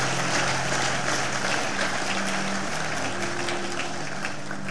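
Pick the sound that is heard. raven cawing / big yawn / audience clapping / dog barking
audience clapping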